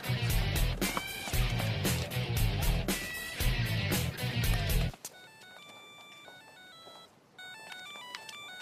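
A burst of loud, thumping music cuts off, then an electronic telephone ringtone plays alone: a bright, beeping melodic pattern that pauses briefly and starts again.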